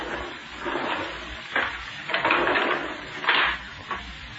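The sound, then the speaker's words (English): Garage doors being closed: a rough, scraping slide with a few clattering bumps and a louder thud near the end, with no voices. “Keep your shirt on and close the garage doors before some fool cop shows up and begins asking questions.”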